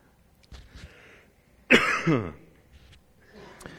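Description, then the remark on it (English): A person who is talking into a microphone gives a single loud, harsh cough close to it, trailing into a rough throat-clearing rasp, with quieter throaty sounds before and after it. “I try not to cough in the microphone, but the more I talk, the worse it gets.”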